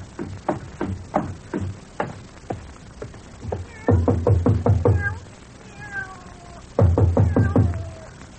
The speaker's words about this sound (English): That's funny. Wonder what's wrong with a cat.